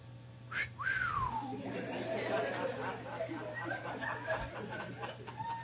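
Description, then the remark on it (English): A single imitated wolf whistle from a person, imitating men whistling at a woman walking by: a quick upward sweep then a long falling glide, clear, followed by overlapping chatter and light laughter, with a steady low hum underneath. “They'd just be whistling, boy. That's that hound call.”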